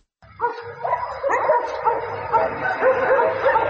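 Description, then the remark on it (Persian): Several stray dogs in the alleys and streets of Kabul bark and yelp in overlapping bursts, a continuous, agitated chorus that sounds fairly loud, with a few higher whimpering cries mixed in. “شماره از باشندگان کابل میگویند افزایش سگ‌های ولگرد در کوچه‌ها و جاده‌های شهر زندگی روزمره‌شان را با مشکل روبرو کرده است.”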